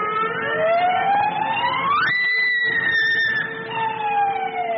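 A loud prison siren at the State Farm prison farm, signalling an escape, wails without pause, its pitch sweeping upward, then holding high before dipping and climbing again. It sounds alone, with no voices.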